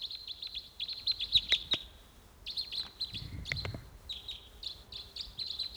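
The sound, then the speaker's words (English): Rapid, high-pitched chirping calls from decoy birds repeat in quick bursts, with a brief pause midway and a few sharp clicks and a low thump underneath. “Just the decoys calling there.”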